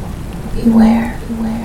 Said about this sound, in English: All at once, as they look to the heavens, the thunder and lightning begins. Heavy rain and tempestuous winds.